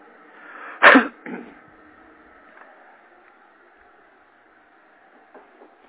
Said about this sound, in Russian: Блин, какой он шумный этот. Утюг, хотел сказать, чайник.